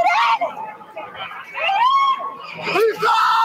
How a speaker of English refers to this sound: Panic also caught on camera in the aftermath, lawn chairs and possessions left behind, people screaming for their loved ones.